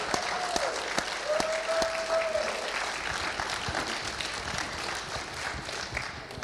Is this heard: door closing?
no